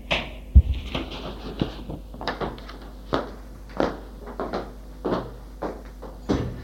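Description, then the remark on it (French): A door is opened after someone knocks on it, with a rattle of handle and latch clicks followed by a string of soft knocks and creaks spread over several seconds, no voices. “Il va ouvrir.”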